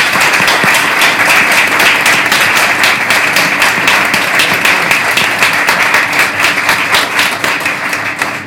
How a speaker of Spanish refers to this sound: Quiero pedir para él un fuerte aplauso y le paso la palabra.